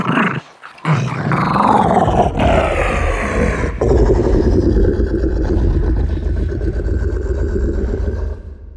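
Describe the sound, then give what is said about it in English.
A deep, monstrous growl from a feisty wiener dog, slowed and pitched far down, rumbling loud for several seconds after a brief opening snarl, with no talking. It was used for the growls of the Rancor monster in Return of the Jedi. “The Rancor's growls came from a feisty wiener dog pitched way down.”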